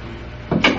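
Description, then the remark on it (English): A door swings shut with two quick muffled thuds, a dull bump followed by a slightly sharper knock, over a steady low hum. “I'll just shut the door.”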